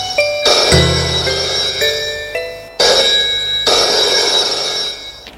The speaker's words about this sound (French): Deux jours plus tard, le téléphone sonne.